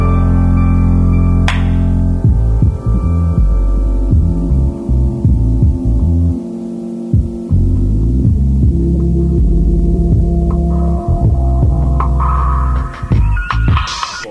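A hip-hop remix plays loud, built on deep, throbbing bass tones with a pulsing rhythm and brief drop-outs, and no voices are heard over it.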